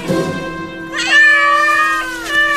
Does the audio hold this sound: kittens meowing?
yes